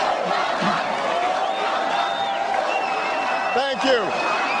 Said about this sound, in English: Of course, his big outing recently was just last month in Germany, in Berlin. A crowd of thousands of Germans greeted Obama there for his July 24th speech, cheering and chanting the senator's name.